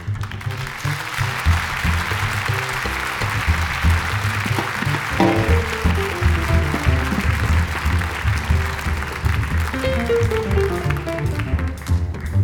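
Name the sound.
audience applauding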